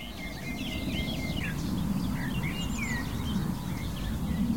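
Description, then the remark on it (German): A blackcap, skylarks overhead and a nightingale sing together: a continuous tangle of thin, high chirps, trills and whistles, with the nightingale's beating phrases and high whistles, over a steady low outdoor rumble like wind, with no voices. “Wir hören die Feldlerchen über uns und die Nachtigall mit ihrem Schlagen und ihren hohen Pfeiftönen.”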